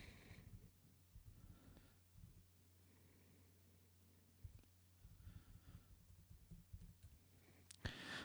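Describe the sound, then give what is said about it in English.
Soft, quick clicks of typing on a keyboard, entering a plug for a new project, come in irregular bursts with short pauses, over a steady low electrical hum, fairly quiet, with no talking. “Sorry, I'm typing in a thing because I need to do a little plug here.”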